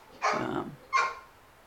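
A dog gives two sharp barks, the first longer and the second shorter, fairly loud, with quiet in between and no talking.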